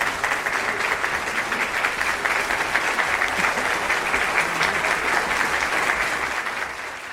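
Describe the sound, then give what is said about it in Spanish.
Sustained audience applause, a dense steady patter of many hands clapping at an even loudness for several seconds, easing slightly at the end, as the audience at an event of the Asociación de Directores de Informativos de Radio y Televisión welcomes back a guest. No voices stand out. “Que sí, aplaudid. Aplaudid porque ha vuelto.”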